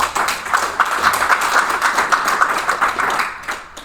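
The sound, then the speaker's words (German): An audience claps together for a few seconds, a dense, steady patter of many hands that holds at an even level before tapering off at the end. “Wer von euch findet, dass er oder sie noch viel zu viel wegwirft? Einmal bitte klatschen.”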